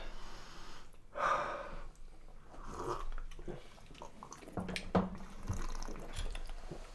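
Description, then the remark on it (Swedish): Sipping sounds from a Campari drink, a few quiet slurps and breaths with soft glass or liquid noises between them, no talking. “Det dricker man ju för sällan.”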